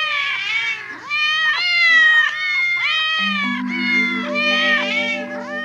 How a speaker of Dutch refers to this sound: Maar ze zijn niet de enige poezen daar. 8 andere poezen staan al te miauwen.